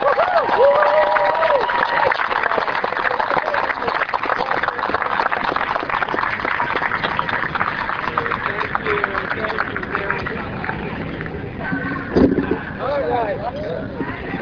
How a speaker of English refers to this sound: Let us thank our veterans and our active duty service personnel with a good hand clap